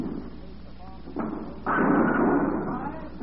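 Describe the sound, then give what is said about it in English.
A bowling ball rumbles down the lane and crashes loudly into the pins, the clatter spreading and fading over about a second, with voices murmuring in the background. “Sending your money knocking pins down.”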